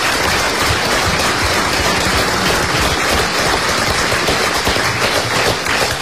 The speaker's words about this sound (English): I think they deserve a good round of applause just for their generosity.